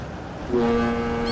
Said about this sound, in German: Der Hamburger Hafen. Hier ist rund um die Uhr Betrieb. Güter aus aller Welt kommen an. Die Ozeandampfer werden in Hochgeschwindigkeit entladen, riesige Container wie Bauklötze gestapelt oder auf LKWs verfrachtet, von so fahrbaren Spezialkränen.